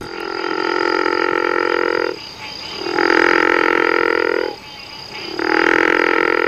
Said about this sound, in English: The river frog's call sounds more like a snore than the call of the gopher frog we just listened to.